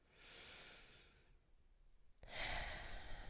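Two slow breaths with no talking: a soft airy exhale fading out, a short pause, then a louder, fuller inhale or sigh-like breath.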